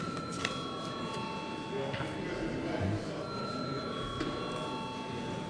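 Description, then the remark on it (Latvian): A parliament chamber bell rings steadily at the chair's request before deputies vote on the second reading of amendments to the consumer rights protection law, a sustained bright tone with shimmering overtones, over a low murmur of background noise and a few faint clicks. “Paldies, lūdzu zvanu.”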